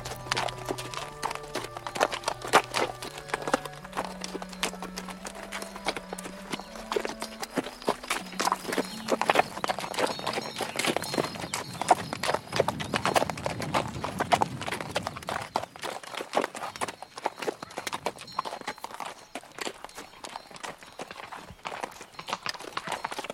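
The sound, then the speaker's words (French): A dragoon's horse clip-clops steadily on a hard road through a juniper heath, a dense run of sharp knocks, fairly loud, with a low droning tone underneath and no talking. “Le cheval de ce dragon qui nous a dépassé tout à l'heure.”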